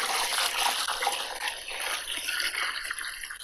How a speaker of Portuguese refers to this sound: Mas então vou explicar-vos como é que lavo roupa por cá. Depois de comprar a água, com cuidado, ponho a água dentro da máquina.